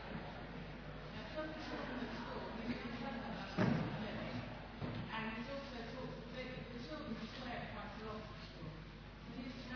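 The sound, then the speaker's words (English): A door is shut with a single solid thud partway through, standing out briefly above a steady background of people talking in a room. “Could you just shut the door up”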